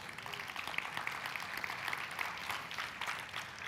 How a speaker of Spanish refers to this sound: ¿Cuántos pueden dar un aplauso al Señor?